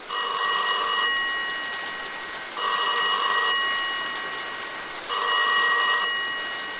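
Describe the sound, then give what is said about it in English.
A black mid-20th century desk telephone on an office desk rings its bell three times in steady bursts, each about a second long with a fading tail, loud with no talking. “He looked mildly amused when the black mid-20th century phone rang to life on his desk.”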